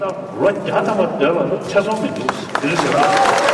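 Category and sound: crowd, crowd cheering and applauding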